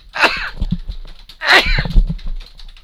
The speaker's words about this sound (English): Gesundheit. Thank you.